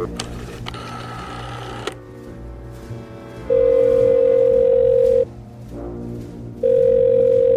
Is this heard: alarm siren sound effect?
no